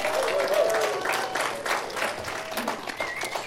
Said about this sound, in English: Everybody, would you please give an awesome round of applause and encouragement for our Bridge kids? Yeah.